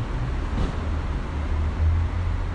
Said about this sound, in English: So with more drivers than passengers, the cars wait. As soon as they get to three people in the car, they take off.